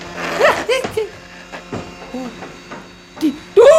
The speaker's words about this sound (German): Weißt du was? Die Säge stelle ich an.